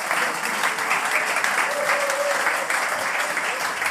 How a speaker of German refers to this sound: Und bitte, das war der Applaus für diesen Anfangstext